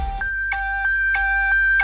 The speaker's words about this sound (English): Nokia ringtone. Yeah, good. Good now. At the start, sounded like a truck reverse.